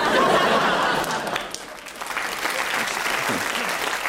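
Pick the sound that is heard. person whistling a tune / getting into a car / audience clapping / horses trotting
audience clapping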